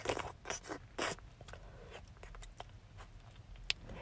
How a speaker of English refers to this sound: You're buckling up your belt. I like the sound of that.